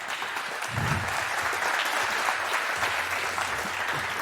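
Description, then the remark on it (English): An audience applauds steadily as a speaker is welcomed on stage for a talk on demystifying Tesla's Bluetooth passive entry system, a dense wash of many hands clapping that stays loud and even throughout, with no voices breaking through. “Please give him a very warm round of applause.”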